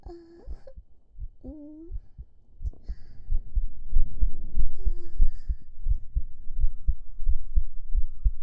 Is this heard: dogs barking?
no